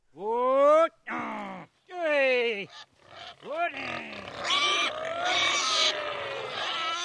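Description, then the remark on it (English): A farmer on western Spain's Dehesa gives several loud, drawn-out calls to his fat black pigs, then the pigs grunt and chomp acorns noisily under cork trees, a steady rough snuffling and crunching of feeding animals. “calls out to his fat black pigs as they chomp on acorns under cork trees.”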